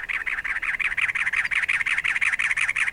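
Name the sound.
cactus wren call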